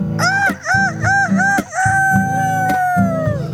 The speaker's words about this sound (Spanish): El gallo que está ronco